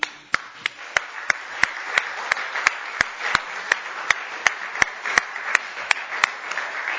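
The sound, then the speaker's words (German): An audience at the 2016 Wolfgang Lorenz Gedenkpreis für internetfreie Minuten applauding the jury steadily, a dense wash of clapping with sharp, evenly spaced claps punching through at a quick regular beat for the full seven seconds, with no voices. “Nochmal einen großen, großen Applaus für die Jury.”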